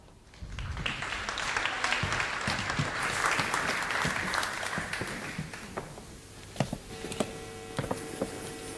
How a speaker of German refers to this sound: Bitte einen großen Applaus für beide.